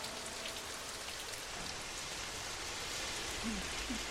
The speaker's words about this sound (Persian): مامان نگاه، بارون گرفته. دیدی؟ گفتم که بارون میاد. کیف کردی؟ مامان جون. جانم، به این میگن رگبار. رگبار؟ وقتی بارون تند و کوتاه باشه بهش میگن رگبار.